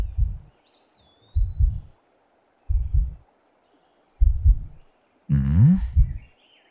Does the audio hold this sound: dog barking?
no